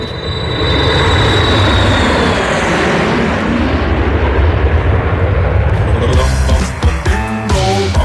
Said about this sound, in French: fais chauffer l'avion, s'il te plaît. Ouais, ça roule.